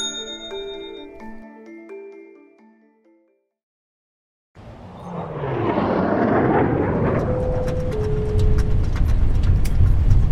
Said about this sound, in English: It's okay. It's just turbulence. I'm a bit of a nervous flyer. It's a really safe plane.